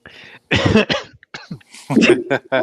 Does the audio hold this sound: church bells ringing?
no